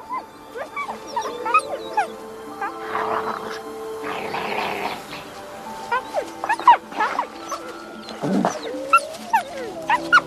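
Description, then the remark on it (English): Arctic wolf cubs whimper and yelp while feeding on Arctic hare on the tundra, a busy, overlapping chorus of high squeals with rough growling scuffles mixed in, fairly loud throughout. “The cubs are growing fast and are always hungry.”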